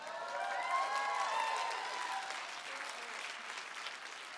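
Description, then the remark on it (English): A crowd applauds steadily while voices shout and whoop over the clapping, the cheering loudest in the first couple of seconds before settling into sustained, slightly softer applause. “Yeah, I'm glad y'all are shouting.”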